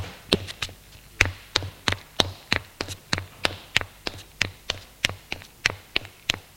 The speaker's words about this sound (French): Elle longe le couloir. Descend les escaliers.